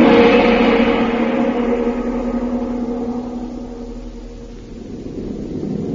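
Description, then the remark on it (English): A steady, loud airplane engine drone hums from inside the bomb bay of a stolen enemy plane, low and throbbing with no voices, easing slightly before swelling again near the end. “Now, back to the bomb bay of a stolen enemy plane and Jungle Jim.”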